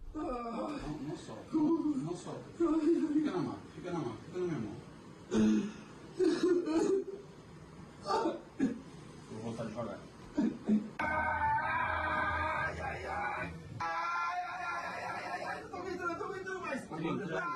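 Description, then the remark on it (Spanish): A Madrid footballer recovering from an anterior cruciate ligament and meniscus injury cries out and sobs in pain as physiotherapists bend his knee fully, in repeated strained vocal bursts, with whimpering between them, then a steadier stretch of wailing toward the end. “Vamos a escuchar el momento en que los fisios están doblándole la rodilla a tope. Los gritos son tremendos.”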